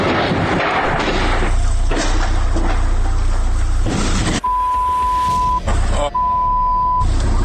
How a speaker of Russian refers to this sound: Там машина выезжает.